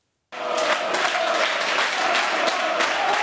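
A dense, steady roar of football fans in England singing, jeering, stamping and clapping at a match, voices blending together, loud and sustained throughout.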